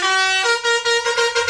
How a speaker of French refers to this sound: Allez, les klaxons.